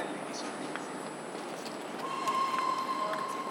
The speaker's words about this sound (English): Sounds like a steam train.